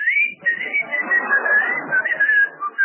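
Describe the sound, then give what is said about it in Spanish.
A continuous, wavering high-pitched whistle from a petticoat, sliding slightly up and down in pitch for about three seconds, fairly loud, with no talking over it. “Una enagua chifladora.”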